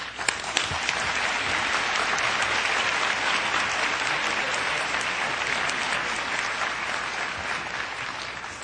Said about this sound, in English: We all applaud the work that you've done and that you've brought to the table.